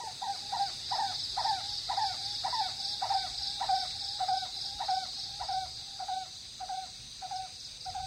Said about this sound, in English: A squadron of crows fly rudely past.